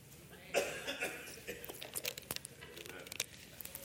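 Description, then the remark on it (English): Someone drinking water: faint crinkling and handling noises with a soft burst, then a series of short, uneven clicks and sips at low volume, with no talking. “I'll drink water.”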